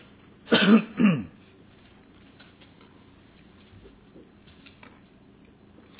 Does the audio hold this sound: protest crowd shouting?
no